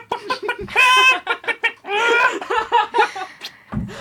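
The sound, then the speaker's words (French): A man's voice imitates a clucking hen on a TV studio set, a loud run of choppy bursts and drawn-out squawks, broken by short pauses and trailing off into a low grunt. “merci d'avoir fait la poule sur notre plateau.”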